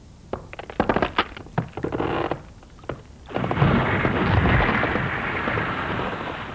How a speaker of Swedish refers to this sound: Det är stora sprickor i isen nu. Ibland smäller i den. Vad är det som låter? Det är ju isen som smälter.